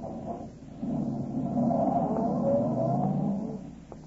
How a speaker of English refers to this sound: walked to his car, got in, stepped on the starter, and drove off.